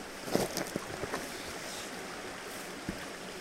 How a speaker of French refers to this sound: Donc voilà, regarde, tu vois, c'est magnifique, magnifique rivière.